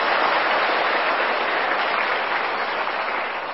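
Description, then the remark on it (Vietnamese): A crowd of students claps steadily and loudly for a few seconds to congratulate themselves, a dense sustained wash of many hands with no voices over it, fading slightly at the end. “Vậy thì các em phải cho một tràng pháo tay để chúc mừng mình.”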